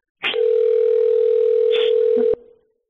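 A phone line rings on the caller's end: one steady, two-second electronic ring tone with faint line hiss and a couple of clicks, then it cuts off with no answer.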